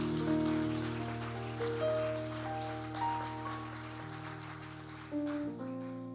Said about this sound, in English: Could you just, everybody, give a hand clap to honor the mothers today?